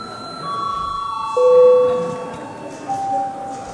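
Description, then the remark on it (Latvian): A parliament chamber bell, rung for deputies' registration, sounds as several sustained, steady electronic chime tones at different pitches, starting one after another and overlapping, while a low murmur of voices continues underneath. “Lūdzu zvanu, lūdzu deputātu reģistrācijas režīmu.”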